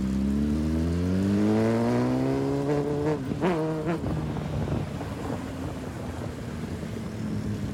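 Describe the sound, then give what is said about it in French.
A motorcycle engine revs steadily up through its gears, its harmonic whine rising and shifting, then dissolves into dense, continuous traffic noise in Dakar, with no voices. “Dakar en moto, c'est très pratique. Au fait, ça évite les embouteillages.”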